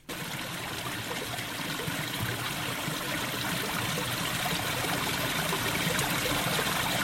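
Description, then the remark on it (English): A gentle mountain stream running from the Rocky Mountains to the plains of Colorado flows steadily, its soft continuous babble and trickle of water filling the scene at an even, moderate level with no voices present. “A quiet mountain stream running its natural course from the Rocky Mountains to the plains of Colorado.”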